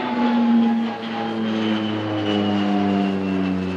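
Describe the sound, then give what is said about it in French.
The engine of a PC-7 propeller aircraft, used for aerobatic training of military pilots, drones steadily and loudly at Les Éplatures, with a strong low hum and layered harmonic whine that shifts slightly in pitch, heard alone without any talking. “le PC-7, c'est un avion qui permet de faire de l'entraînement au niveau de l'acrobatie”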